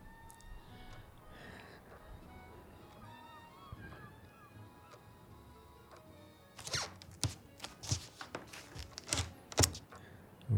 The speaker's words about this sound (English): What are you? Are you doing the dishes? Stop! I said I was gonna clean up. I mean it. Get away from the sink.